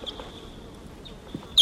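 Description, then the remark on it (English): Wild birds calling as they take off from a tree; bird number 745 starts to call. A faint, thin high tone runs throughout, with a short chirp at the start and a sharper, louder high call right at the end. No talking. “Wild birds just took off.”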